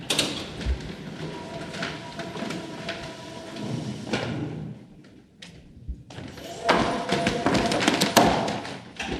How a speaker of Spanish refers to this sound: Así se abre la puerta de acceso al césped, la barrera que se abre en el estadio de Dallas, que realmente es impresionante.